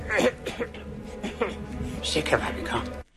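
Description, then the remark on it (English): Several hoarse, raspy coughs from a played film clip of Yoda dying, at uneven intervals, with strained vocal sounds between them, moderately loud, ending abruptly. “Yoda dies from a cough.”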